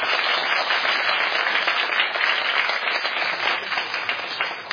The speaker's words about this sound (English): So without further ado, please join me in giving Ajahn Brahm a round of applause.